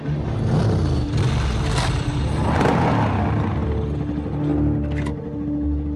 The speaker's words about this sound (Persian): اون ماشین که رفت پلیس بود.